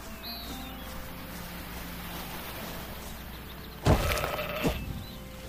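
A single short, strained sheep bleat rises suddenly out of a quiet, steady background and fades within about a second. No one speaks.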